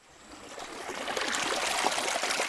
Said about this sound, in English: Fresh mountain water flows through Riquelme Sasa's farm in southern Colombia